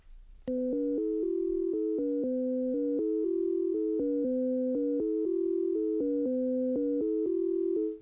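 A continuous run of pure, beeping electronic tones played over headphones in a scale illusion experiment steps rapidly up and down in pitch, with high and low notes interleaving in a steady, even rhythm. Clear, with no talking.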